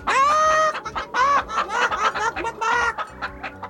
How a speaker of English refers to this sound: we bulldozed several chickens who were foolish enough to stand in our way. They were pecking gravel and seeds and other garbage that chickens eat, and you should have seen them scatter when we went zooming across the gravel drive.